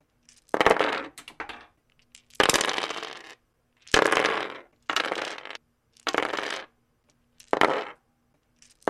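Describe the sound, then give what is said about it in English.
Six separate bursts of dice, a different kind each time, clattering and tumbling across a hard surface, each roll a short, bright rattle lasting under a second, with brief silences between them and no voices; recorded as splices into a Morphogene module. “I've corded the sound of rolling some dice into the Morphogene, do like five or six different splices, different kinds of dice each time, and that is what we will be kind of starting with as the sound source for our patch.”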